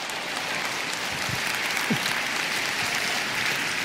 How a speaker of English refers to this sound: You two stand up. Let's clap it up for these guys.